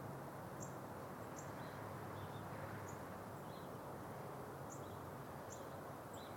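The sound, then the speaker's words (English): A bird calls repeatedly in the early morning in Franklin, Massachusetts, with short, high chirps spaced about a second apart, fairly faint, over a steady outdoor background hiss. “This one was calling out like that.”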